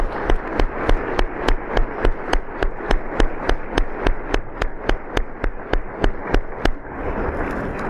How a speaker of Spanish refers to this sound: Vamos a darle un aplauso por su trabajo.